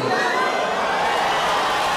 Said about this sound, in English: I mean, people just start yelling. They're shocked.